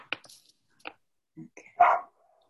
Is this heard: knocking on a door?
no